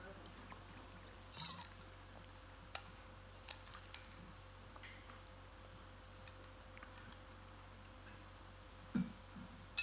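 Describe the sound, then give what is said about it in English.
Water is poured as a speaker grabs some water, with a few soft clicks and knocks as a container is handled, and a brief louder clatter near the end. “Let me grab some water.”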